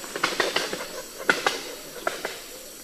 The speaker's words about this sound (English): But unlike moas and dodos, which are both extinct, crowned pigeons can fly, and they do so with a loud wing crack.